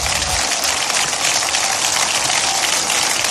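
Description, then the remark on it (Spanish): An audience at a Socialist politician's speech applauding steadily, a dense, continuous wash of clapping that holds an even loudness for the whole few seconds, with no voices standing out above it. “Y se ponen a aplaudir.”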